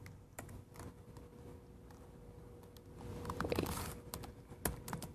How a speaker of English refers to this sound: Which is percent wait fg, or sorry, it's hard to see what I'm typing. Wait fg.